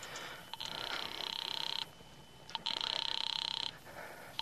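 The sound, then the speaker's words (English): A telephone rings twice on the line during a call placed from a phone booth in a drugstore, each ring a buzzy, warbling tone lasting over a second with a short pause between, heard faintly as if through the receiver. “I went to the phone booth and called my sister Lil.”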